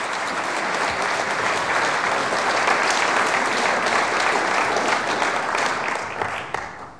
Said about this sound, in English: Give him a little round of applause as he makes his way forward.